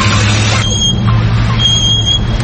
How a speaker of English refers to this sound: Don't let noisy brakes kill your mojo.